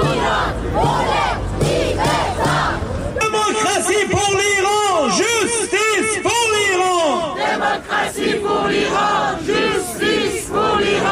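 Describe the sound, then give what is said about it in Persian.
A large protest crowd in Rome, Italy, chants the slogan "Woman, Life, Freedom" in unison: loud rhythmic shouted phrases repeat over a dense roar of many voices, with a single voice rising above at times. “روم پایتخت ایتالیا و فریاد زن زندگی آزادی.”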